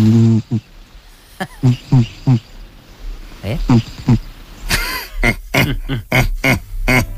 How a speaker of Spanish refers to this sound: Teníamos, había uno, ¿os acordáis? ¿Os acordáis de este? A ver. Maravilloso, el ronquido gato, le llegamos a llamar.